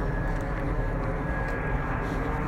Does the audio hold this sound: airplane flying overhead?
yes